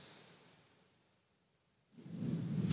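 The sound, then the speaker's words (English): Soft hiss gives way to a low, swelling rumble of thunder from a passing storm that builds over the last second and stays fairly faint. “With the storm going through, if you use the microphone, please speak up still with that, I will say.”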